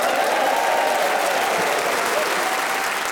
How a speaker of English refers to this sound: Please whoop and cheer and generally go cray-cray for all four of them.